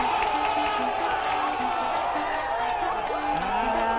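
A crowd claps and cheers after a team correctly answers a quiz question on the start of the Second World War, with a member of the opposing team also applauding: a dense steady wash of applause with overlapping excited voices and shouts, holding at a constant loudness throughout the four seconds.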